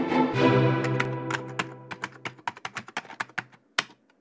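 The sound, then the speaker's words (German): Crisp keystrokes on a computer keyboard tap out a quick, slightly uneven rhythm, following a brief humming tone that fades away at the start. “Auch in diesem Jahr hieß es wieder ran an die Tastatur.”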